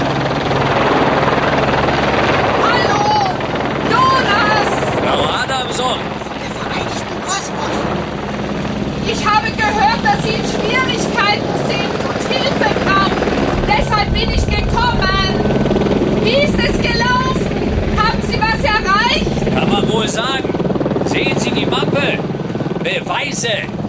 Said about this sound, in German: Du meinst den Hubschrauber?